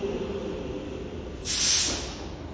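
A steady low rumble of a train carriage, with a sudden burst of pneumatic brake hiss about midway that swells and fades as the train slows and comes to a halt at its first stop.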